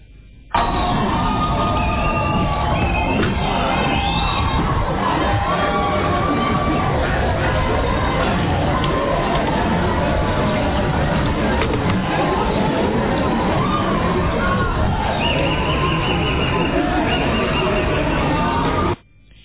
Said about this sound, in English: The courtroom erupted in wild applause after the judge announced the sentence.